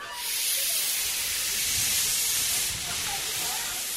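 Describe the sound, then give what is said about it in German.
A historic steam locomotive of the railway that circles the Somme bay nature reserve on the Channel coast hisses loudly and continuously, a broad roaring spray of steam filling the whole clip, with faint rumbling and mechanical clatter underneath. “Wer ein besonderes Erlebnis hier oben an der Kanalküste sucht, der sollte zum Abschied die historische Eisenbahn nicht verpassen.”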